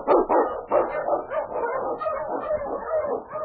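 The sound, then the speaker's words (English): The Wonder Dog King, an Eskimo lead husky sled dog of Sergeant Preston in the Yukon, barks loudly and excitedly in a rapid, continuous run of barks and yips, with no talking over it. “The Wonder Dog King, swiftest and strongest of Eskimo lead dogs, blazes the trail through storm and snow for Sergeant Preston as he meets the Challenge of the Yukon.”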